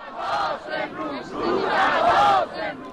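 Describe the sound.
A large crowd of mourners, estimated at tens of thousands or more, chants "It is a time of mourning" together at the funeral of Grand Ayatollah Montazeri in Qom, in loud, rhythmic surges, many voices rising and falling in unison with a steady cadence, mournful in tone.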